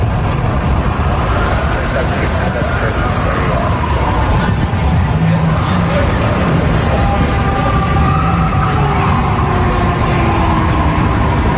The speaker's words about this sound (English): When you heard the sirens at first, as you just heard, mm-hmm. it's like, wow, that's a lot of sirens. The sirens just kept getting louder and more numerous.